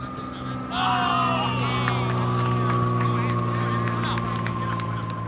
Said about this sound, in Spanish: Aquí pasan aviones permanentemente por encima del entrenamiento de la selección española.